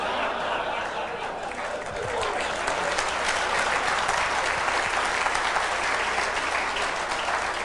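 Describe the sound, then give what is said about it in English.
An audience breaks into sustained applause after a speaker's joke, many hands clapping in a dense, steady wash of sound that swells slightly after the first couple of seconds and holds loud throughout. “From those of you who did not clap or applaud, that is not a political statement.”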